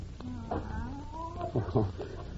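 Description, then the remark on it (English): Professor Kimberly's cat lets out a drawn-out, wavering meow that rises and falls over a couple of seconds, moderately loud, followed by a few short low bumps. “That's just Professor Kimberly's cat.”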